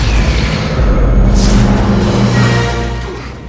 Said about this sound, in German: In einer gewaltigen Explosion bricht es auseinander.